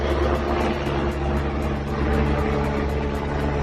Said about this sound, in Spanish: Es el sonido de uno de los helicópteros desplegados en ese importante dispositivo de los Mossos